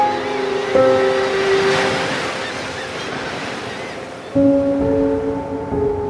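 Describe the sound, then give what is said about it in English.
Ocean surf washes steadily onto Gilgo Beach, about 50 miles from New York City, a broad hissing roar that swells and eases, with low sustained tones humming beneath it and no one speaking. “There's a beautiful rhythm to the ocean, a predictable rise and fall of the tides.”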